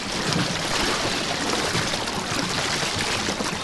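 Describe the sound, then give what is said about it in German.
A small boat is steered forward through water, with a steady rush of splashing and churning water and no break in the sound. Nobody speaks. “Und das sind die Geräusche, wenn man nach vorne fahren will.”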